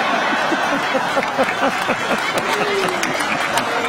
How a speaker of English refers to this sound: Even the camera guys are clapping on that one.